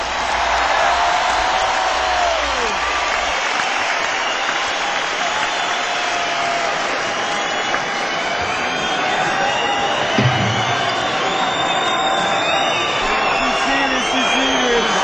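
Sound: audience applause and cheering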